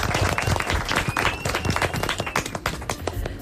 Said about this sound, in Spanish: Muy bien, fuerte aplaudimiento. Muy bien.